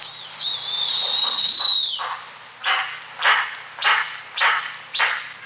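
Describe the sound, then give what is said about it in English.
A snowy owl gives its breeding-ground call: a long, high, slightly falling shriek lasting about two seconds, then five evenly spaced harsh, raspy barks in a steady rhythm. No one speaks. “Snowy owls are usually silent in winter, but just in case you're wondering what they sound like on their breeding grounds, this is their call.”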